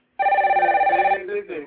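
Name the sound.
telephone ringing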